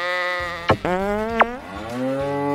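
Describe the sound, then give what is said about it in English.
A new electronic noisemaker with many sounds plays a loud, drawn-out cow moo, a buzzy harmonic call whose pitch slides and wavers, broken by a couple of sharp clicks, with no talking. “But she did give me this nifty new electronic noisemaker. It's got a ton of sounds.”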